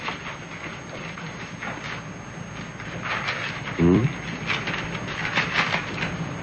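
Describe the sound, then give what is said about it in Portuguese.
Paper rustles in short crisp bursts as a letter envelope is torn open and handled, with a brief low thump partway through and steady background hiss. “Você que é tão curiosa, por que não abriu a carta?”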